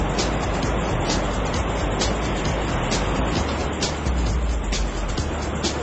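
Steady, loud rushing roar of big, wild ocean waves where people are surfing, with a constant churning wash and faint rhythmic hissing bursts on top, filling the whole stretch without any voices.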